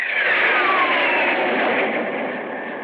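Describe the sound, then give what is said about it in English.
A loud, steady cargo jet engine roar fills the whole stretch, a dense rushing drone with a faint whine sliding slowly downward, easing off just slightly toward the end. No voices. “I lay on my filthy bunk in the hold of the cargo jet, trying to think of a way to get back to New York.”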